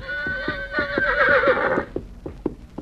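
A horse lets out a loud, quavering whinny lasting under two seconds while it walks slowly toward a small boy, steady hoofbeats clopping along beneath it and continuing in an even rhythm after the neigh fades.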